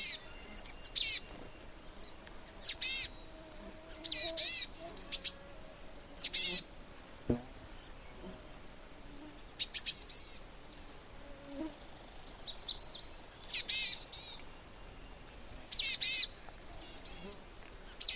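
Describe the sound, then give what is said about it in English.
Small birds call and chirp in quick, high-pitched bursts, repeated in clusters throughout with brief pauses between, against a quiet outdoor background. “I can't tell you how thrilled I am to see these little birds and have them make their little sounds.”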